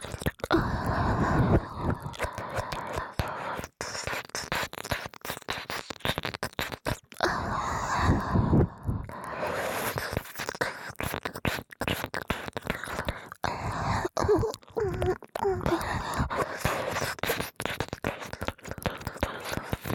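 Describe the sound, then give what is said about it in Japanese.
ASMR tongue-licking sounds mixed with breathy exhales: wet mouth and tongue clicks repeat in quick irregular bursts, interwoven with soft breathy exhales, intimate, with no talking. “さっきのレロレロに吐息を混ぜたエッチエッチ吐息を混ぜます。”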